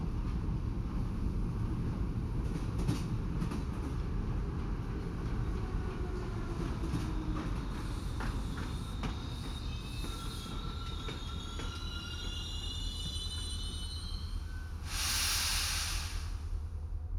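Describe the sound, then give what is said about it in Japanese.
A train rumbles steadily as it slows, wheels squealing in thin, drawn-out tones, ending with a burst of hissing air as it comes to a stop. “そろそろ停車いたします。”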